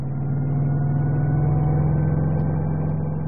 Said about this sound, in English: Our helicopter's always this noisy.